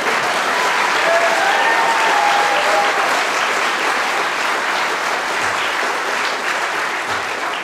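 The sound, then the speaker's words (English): Steady, loud applause from a panel game audience, urging a bonus point for Peter Jones. A dense, continuous patter of clapping holds at an even level throughout, with a few faint whistles or cheers rising briefly near the start. “I think the audience applause is saying, give Peter Jones a bonus point.”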